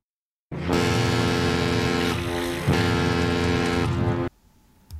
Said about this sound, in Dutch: Het is wel een boot inderdaad. Goeie gok.